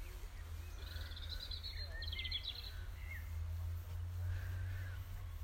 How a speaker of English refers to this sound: It's very still this evening. The allotment site seems like we're the only people here. A lot of lovely evening bird calls.